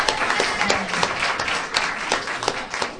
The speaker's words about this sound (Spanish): ¡Un aplauso, por favor!